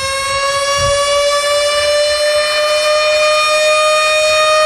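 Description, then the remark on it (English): A loud, sustained alarm siren holds a steady wailing tone with strong harmonics, slowly rising slightly in pitch across the whole stretch, with no voices present. “Sound the alarms, he said.”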